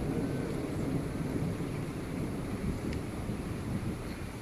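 Steady rain falls outdoors, a dense, continuous hiss and patter with a heavy low rumble underneath, holding an even, moderate loudness throughout with no voices.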